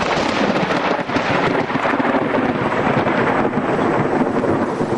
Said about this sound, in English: They saw lightning flash. They heard thunder crack in the hills.